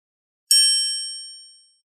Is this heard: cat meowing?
no